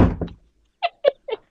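A heavy, booming thud on a door, then a short pause and three quick, sharp knocks in an uneven rhythm, all loud with no voices.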